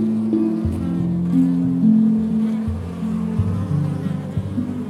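A dense, steady drone of many honeybees buzzing inside a hive, loud and close, with overlapping wingbeat tones shifting slightly in pitch and no voices.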